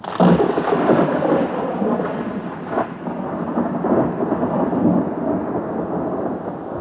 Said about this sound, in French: Le tonnerre grondait, les éclairs illuminaient le ciel, et un vent glacial se faufilait à travers les fenêtres et les portes du palais.